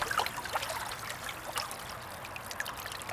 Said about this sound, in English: When we were in upstate New York on Lake Geneva, we were sitting at the shore of the lake and listening to the way that this water lapped against the shore, this kind of gentle sound. It actually had this like very strong melodic quality.